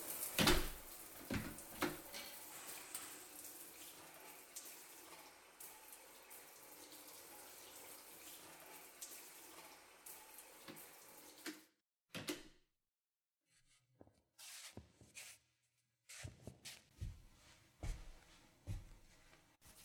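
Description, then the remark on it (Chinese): Tap water runs in a steady hiss for around eleven seconds as someone bathes, then shuts off, leaving a few scattered knocks and clunks in otherwise quiet surroundings. “我先关门啦，等我洗完出来再说吧。”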